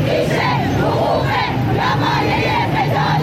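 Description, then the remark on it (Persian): A large crowd of provincial employees of Iran's State Welfare Organization protests their pay and benefits in front of the Islamic Consultative Assembly (parliament) in Tehran, chanting in unison with loud, rhythmic shouted phrases that rise in regular pulses, many voices blending into a dense, steady roar throughout. “روز گذشته در تهران کارمندان استانی سازمان بهزیستی در اعتراض به وضعیت حقوق و مزایا و دریافت های رفاهی خود مقابل مجلس شورای اسلامی دست به تجمع اعتراضی زدند.”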